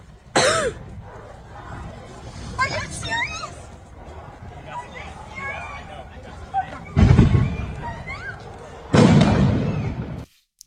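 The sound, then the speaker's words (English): Fireworks going off in a few loud, crackling bursts, one early and two close together near the end, over a steady background of crowd noise and scattered voices. “Ton of fireworks.”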